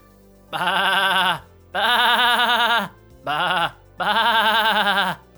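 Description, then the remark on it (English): A person imitates a goat with four loud bleats, each a wavering, quavering cry separated by short pauses, with no other talking. “No, I am not speaking the language of my people. I am speaking GOAT.”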